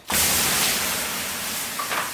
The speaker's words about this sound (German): Mit einer langen Kelle wirft sie das Wasser regelrecht auf die heißen Steine, dass es nur so zischt.